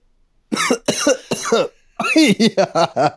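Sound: coughing and clearing throat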